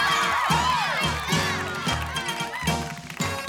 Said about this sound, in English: let's hear it once again for those weary wandering men. Clap your hands and make some noise. Let's hear it for the shepherd boys.